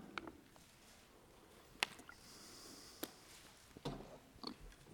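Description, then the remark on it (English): Quiet sounds of a speaker drinking water: a few soft slurps, small clicks and a gentle swallow, with a brief hiss of breath and no talking, while listeners turn to 2 Corinthians chapter 4. “I'll give you a few seconds as I sip here some water.”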